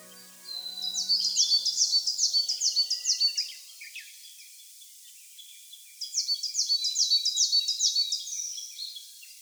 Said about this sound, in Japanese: それでも鳥たちは元気に鳴いていました。栃木県日光市霧降高原の早朝です。元気な鳴き声はヒガラです。